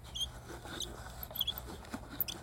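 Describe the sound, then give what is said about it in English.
A music box crank turned slowly: soft, irregular ticking of little gears with brief, high-pitched squeaks from the crank scattered throughout, all fairly quiet and with no voices. “You can actually, like, really hear the little gears turning and the little, like, squeak from the crank.”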